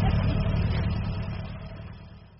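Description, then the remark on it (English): A small blue car arrives and its engine idles with a steady, low, throbbing rumble that gradually softens toward the end, with no voices present. “Oh, here's Mrs. Hawthorne in the wee blue car.”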